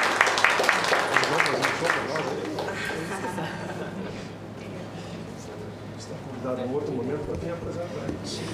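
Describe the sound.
An audience applauds the young people of Companhia Segundo Tempo for their first-place award as best anti-bullying cultural project at the First Brazilian Forum Against Bullying and Other Violence. A dense burst of clapping at the start gradually thins into a steady wash of crowd noise, while people talk over it toward the end.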